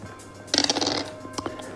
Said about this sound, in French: Vas-y, lance les dés, fais moins de 60.